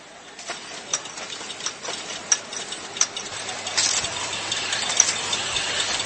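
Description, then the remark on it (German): Grinding and processing machines run early in the morning on a hot June day in the small workshops of a craft village that makes bamboo products: a steady low hum under a hiss of mechanical noise, punctuated by sharp, irregular clicks; partway through, the grinding thickens and grows harsher. No one speaks. “Schon am frühen Morgen hört man die Geräusche von Schleif- und Bearbeitungsmaschinen in den kleinen Kassen.”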